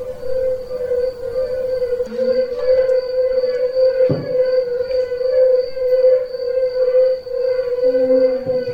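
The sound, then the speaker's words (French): A chorus of yellow-bellied toads gives soft, mellow, hooting notes that overlap into a steady, fairly low tonal drone, holding on without pause and with no talking. “Et voilà l'espèce un peu particulière qui, en Midi-Pyrénées, fait l'objet de nombreuses protections, de recherches, d'études. C'est le sonneur à ventre jaune.”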